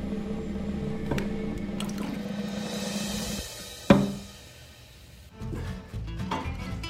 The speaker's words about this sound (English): just getting your birthday drink ready for you. Champagne on the rocks, yeah?